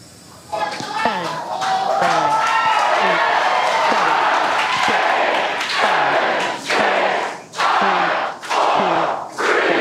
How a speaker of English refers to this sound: The countdown on the live stream was hard to hear because SpaceX employees in California were surrounding mission control, cheering.